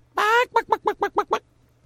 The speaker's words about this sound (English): I don't have a chicken, do I? I have a duck.